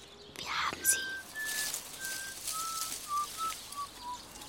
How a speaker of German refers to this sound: Ein Mädchen schlich um den Sperrmüllhaufen. Es hatte sich die Kapuze seiner gelben Jacke tief ins Gesicht gezogen und pfiff lässig vor sich hin. So, als ob es ganz zufällig vorbeikam.